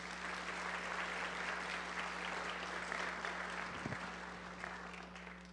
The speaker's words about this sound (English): And I think we all should applaud her right now.